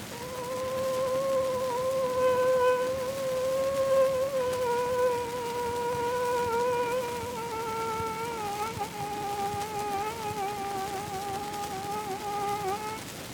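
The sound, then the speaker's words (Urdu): A voice imitates how a mosquito whines in the evening: a steady, continuous nasal buzz held for over ten seconds, fairly loud, its pitch wavering slightly and dipping lower toward the end. “اچھا بیٹا، مچھر شام کے وقت کس طرح بھن بھناتی ہے؟”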